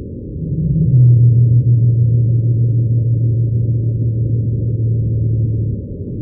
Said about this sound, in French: Et elles répètent ça aussi pendant plusieurs dizaines de minutes. Mais ça prend aux tripes, moi, je trouve. C'est tellement grave. Voilà, la baleine bleue pygmée de Madagascar.